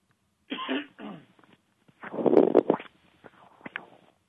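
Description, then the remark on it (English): A short run of small coughs and throat-clearing sounds, in three bursts with the middle one loudest, and no talking. “I'm sorry, I know you had a little cough there.”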